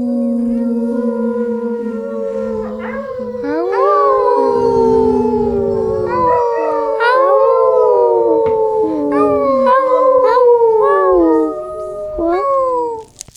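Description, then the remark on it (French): Several wolves howl together at night in a dark, deep forest, long, overlapping wails that rise and fall in pitch, forming a loud, sustained chorus for over ten seconds with no talking. “Dans la forêt sombre et profonde, des hurlements déchirent la nuit.”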